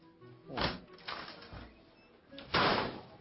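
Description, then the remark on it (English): A few dull, irregular knocks on a door, three muffled thumps spaced unevenly, with the last one the loudest. “Knock, fucking knock.”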